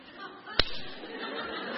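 A brief burst of audience clapping, reduced to a single sharp, loud smack that cuts off almost at once, followed by a low murmur of voices in the background.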